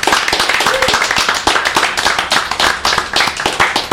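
A burst of audience applause, many hands clapping quickly and unevenly in a dense, sustained patter that stays fairly loud throughout, with no one speaking over it.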